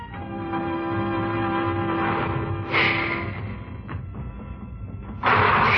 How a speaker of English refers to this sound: The train started away without us. Somehow it seemed to run more smoothly, as though its wings were light instead of dark.